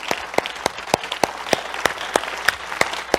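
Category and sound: crowd, audience clapping hands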